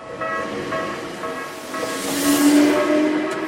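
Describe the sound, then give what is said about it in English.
A commuter train in Japan, carrying workers into Tokyo, rolls along the rails with a steady rumbling hiss and faint metallic whines, growing louder midway as a brief horn-like tone sounds. No one speaks. “Those who still work take the train into Tokyo every day.”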